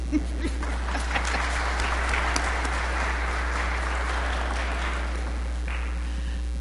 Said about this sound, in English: Let's clap.